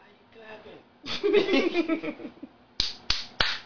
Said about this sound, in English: Why you clapping?